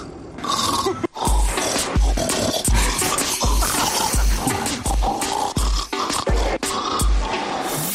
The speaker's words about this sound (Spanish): Esta señora, que estuvo grabando durante 4 años los ronquidos de su marido, pues ha hecho una mezcla que es imposible.